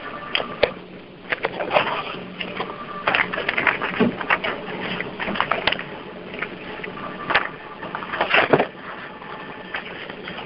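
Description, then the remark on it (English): A printer runs continuously on its own during a meeting, its mechanical whir broken by irregular clicks and clacks as pages feed through. The sound is steady, with no voices. “The printer is printing on its own.”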